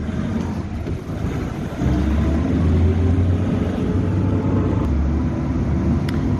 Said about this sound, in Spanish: Por eso, en la puerta del hotel nos espera una furgoneta con un policía armado. Con él nos adentramos en el caótico tráfico bien temprano de la capital colombiana.